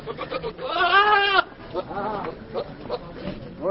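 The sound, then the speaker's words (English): A goat lets out a loud, wavering bleat on a street in Islamabad, Pakistan, as families prepare for the Eid al-Adha feast, followed by a few shorter, quieter bleats, all over a steady murmur of outdoor background noise. “Goats are everywhere on the streets of the Pakistani capital Islamabad as families prepare for the ritual feast of Friday's Eid al-Adha holiday.”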